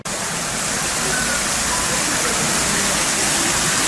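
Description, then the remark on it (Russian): A small waterfall splashes and rushes steadily, a dense, continuous hiss of falling water with no pauses or changes in intensity. “Можно даже сказать, что это водопад.”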